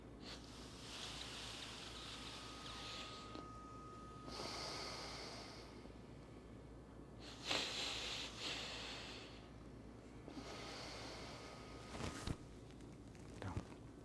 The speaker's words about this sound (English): Then breathe in from here, because you have closed this. Breathe three times.